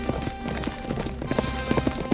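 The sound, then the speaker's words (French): A horse's hooves gallop in a quick, steady rhythm of sharp thuds, clear, with no voices over them, as a rider flees on horseback away from a castle. “Elle grimpa sur son cheval et s'enfuit au galop, loin du château.”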